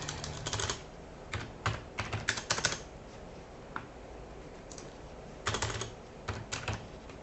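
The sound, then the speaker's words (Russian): Crisp keyboard typing comes in quick clusters of clicks with short pauses between them, then a longer gap before another flurry of keystrokes. No one speaks. “Которая. Не печатается.”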